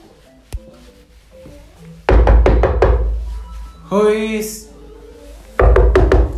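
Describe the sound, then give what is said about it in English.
Loud knocking on a door comes in a quick flurry of about five raps, then a brief voice sounds before another burst of heavy knocks starts near the end. “I listen that door.”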